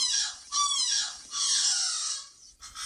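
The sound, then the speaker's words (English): Juvenile alala (Hawaiian crows) make a string of raspy, squawking practice calls while developing their call repertoire: three or four harsh bursts that rise and fall unevenly, fairly loud, with no voices. “The juvenile birds can play with their vocalizations for a few years sometimes before they get the full adult expression of calls.”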